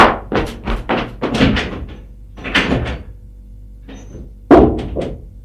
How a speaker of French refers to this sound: Tape du poing. Ouvrez. Ouvrez.